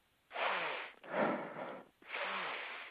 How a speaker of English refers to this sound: You heard me sniffing. Well, what I'm attempting to do is sort of play being a dog.